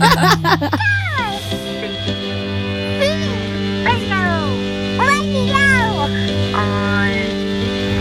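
A cat meows repeatedly, about five drawn-out rising and falling meows spaced a second or so apart, clear over a steady low electrical hum.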